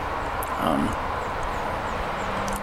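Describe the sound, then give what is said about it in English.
A steady, droning World War II bomber plane engine roar used as the Millennium Falcon engine sound in Star Wars, fairly loud, holding an even rumbling texture throughout with a brief swell near the start. “Like the sound of the Millennium Falcon was a World War II bomber plane, I think.”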